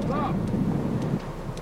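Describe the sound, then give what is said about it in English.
Strong wind roars outdoors over a flooded, abandoned street, filmed on a video camera during a storm, a steady low rumbling buffet against the microphone that stays loud throughout, with a faint hint of a voice briefly underneath. “the sound of the wind, like the bad news the man is delivering, is real and powerful.”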